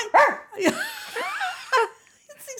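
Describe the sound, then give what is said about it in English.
A person imitates a dog, giving three sharp barks with wavering whine-like sounds in between, loud and up front with no other talk. “Was that quite a good dog sound? It was very good indeed.”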